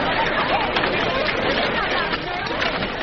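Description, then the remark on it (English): A dense crowd babbles loudly and continuously, many overlapping voices blending into an agitated, restless hubbub with no single speaker standing out. “What's the crowd for?”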